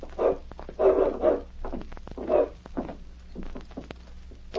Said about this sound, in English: What about that dog in the back room